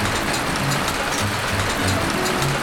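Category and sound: nature, hail falling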